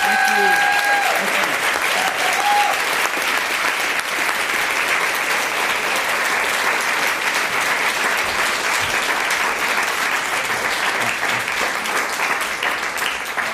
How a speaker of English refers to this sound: So with that, let's close by giving a big round of applause to Eric Liu.